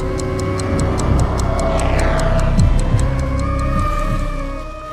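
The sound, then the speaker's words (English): A clock ticks steadily and quickly, crisp and clear, layered over a dense, low droning musical backdrop with swelling, sliding tones; no one speaks. “Ticking clock.”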